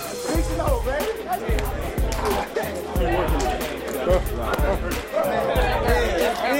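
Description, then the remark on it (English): A large crowd of Kansas City Chiefs fans at Arrowhead Stadium roars continuously in a loud, dense wash of cheering and chatter, reaching 137.5, a new world record, with heavy low thumps pulsing at a steady rhythm underneath. “Kansas City Chiefs fans, the loudest stadium in the NFL.”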